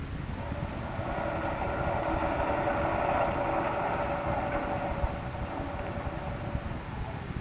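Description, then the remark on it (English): A submarine engine runs at full speed astern with its propeller fouled, turning as if held back: a loud, continuous mechanical drone with a strained, humming tone and faint rattling underneath, holding unbroken throughout with no voices. “The engine room reports the propeller is still fouled, sir. It behaves as it did before. It turns, but as if something is holding it back.”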